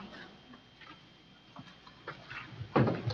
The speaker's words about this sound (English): I'm going to set my timer.